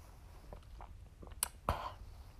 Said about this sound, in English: And I mean, now that I'm doing the podcast, I'm starting to think about the podcast while I'm sipping on this chocolate chip cream freeze smoothie from Big B.